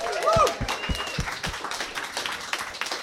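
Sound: audience clapping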